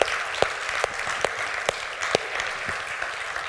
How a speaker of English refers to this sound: Could we give him one more hand clap of praise today? Amen.